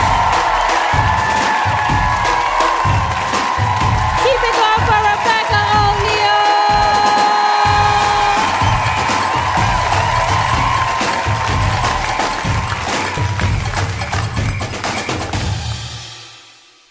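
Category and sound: crowd, audience applause and cheering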